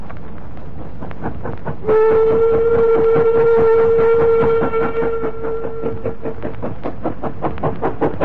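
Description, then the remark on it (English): A steam goods train chuffs slowly and steadily up an incline on its run from Nottingham to Chesterfield, its rhythmic puffs loud, while a long, sustained whistle sounds over the beat for several seconds before fading. “A goods train was puffing slowly up an incline on its run from Nottingham to Chesterfield.”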